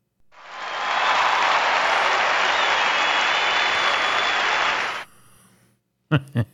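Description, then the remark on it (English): A crowd of men breaks into loud, dense clapping and cheering that holds steady for about five seconds, then cuts off sharply, followed by a brief voice. “I can hear men cheering and applauding across the globe that listen to this program.”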